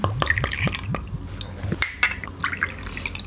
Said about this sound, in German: gieß doch mal ein. Ja, ich mache jetzt erstmal die Flasche auf. Das war schon mal einfach.